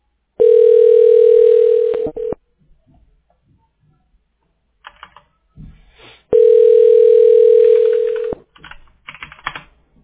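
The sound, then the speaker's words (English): A telephone ringback tone purrs twice while a call is connected to the owner of a repair business in Phoenix, each steady ring lasting about two seconds with a long silent pause between, loud and clear over a quiet line with faint clicks. “Let me connect you with the owner.”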